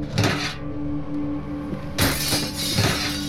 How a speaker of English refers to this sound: He smashed through the window with a garbage can and stepped inside.